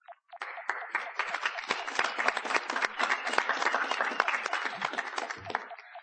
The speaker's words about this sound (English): The applause will be turning to boos in a minute.